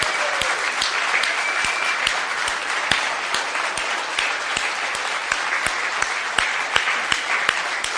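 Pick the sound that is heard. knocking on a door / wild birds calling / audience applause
audience applause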